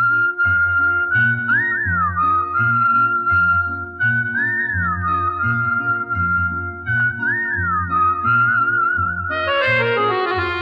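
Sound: whistling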